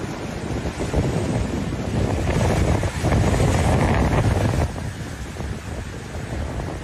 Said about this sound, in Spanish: Esto que escuchas es el sonido de las olas rompiendo contra las rocas durante el inicio de la recogida del percebe en la Costa da Morte, en A Coruña.